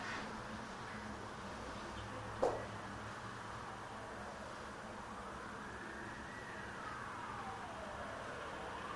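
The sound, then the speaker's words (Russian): An ambulance siren wails faintly, its pitch slowly rising and falling over steady background road noise, with a brief sharp knock early on. “Скорая помощь, да?”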